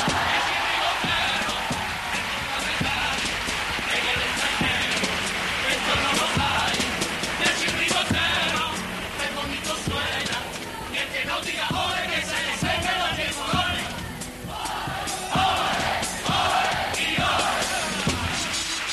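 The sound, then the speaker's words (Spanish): A large audience erupts in sustained applause and cheering after a carnival cuplé, with shouts and whoops rising over dense, continuous clapping that stays loud and full for the whole stretch. “Es verdad que, como bien dice José Mari, hay mejor termómetro que los aplausos que nos dejan.”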